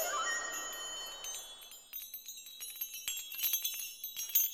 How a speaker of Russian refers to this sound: Он вздрогнул, и мелкие льдинки со звоном посыпались с его одежды.